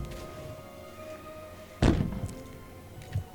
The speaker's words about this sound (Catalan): De cop van sentir un soroll, com unes petjades.